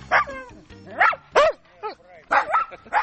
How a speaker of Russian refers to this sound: Не удивляйтесь, это действительно собачий лай, конкретно такса. Фестиваль такс проходит здесь каждый год, и любой посетитель может в этот день прийти с собакой. Но фестиваль бывает раз в году, а вот таксы в усадебном парке встречают гостей всегда.